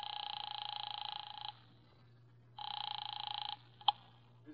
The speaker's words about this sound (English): I drove down to the document research laboratory on Vanderbilt and got such a shock that I grabbed the office phone and dialed Wolf at once.